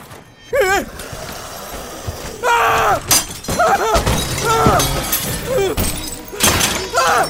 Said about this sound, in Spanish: Y lo que en un principio eran unos cuantos, ahora eran incontables muertos vivientes, rompiendo vidrios y puertas, abriéndose paso al interior de la bodega.